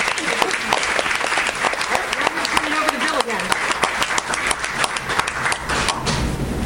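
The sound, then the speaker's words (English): Steady audience applause for the work of a board of directors fills the whole stretch, a dense wash of many hands clapping at a fairly loud, even level with sharper individual claps standing out, and no talk over it. “And I hope you'll join me in a round of applause for the work they're doing to ensure the future of the Alaska Green Valley.”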